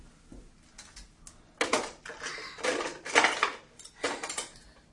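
Dishes and cutlery clink and clatter as they are put away, a run of bright metallic and ceramic knocks that start softly, then grow louder in irregular bursts, with no talking.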